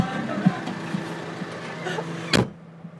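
The engine of a red tractor, which someone has just climbed up into, idles with a steady, low droning hum and a buzzy overtone. Near the end a sharp, loud clunk cuts through, and then the sound drops away almost entirely.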